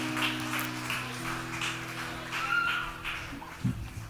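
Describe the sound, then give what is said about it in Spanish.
A crowd of parents and children clapping together at a church children's celebration, a steady wash of many hands with uneven bursts, over a low constant hum. “Ok, vamos a levantar otro aplauso grande.”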